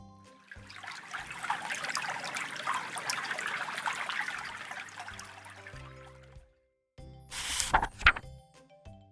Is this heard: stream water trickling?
yes